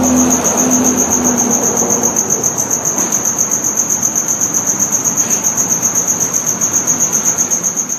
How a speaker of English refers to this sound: It's the loudest cricket you have ever heard in your life. It is so loud. It is so loud, this cricket. I will play it for you. Here, hold on. Let me play this cricket for you, and you will see exactly what I'm talking about.